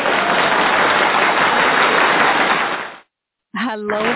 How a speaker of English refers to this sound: So let's not keep them waiting. Let's welcome him with a wonderful round of applause.